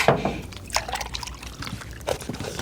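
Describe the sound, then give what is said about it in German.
Milk pours into a glass in a steady, gurgling stream lasting a few seconds, with bright splashy bursts and a faint rising fill tone, no speech. “Hier, dein Glas Milch, wie gewünscht.”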